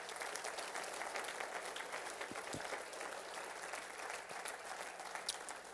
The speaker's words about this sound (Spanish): Cuando dicen amén, podemos darle un aplauso al Señor.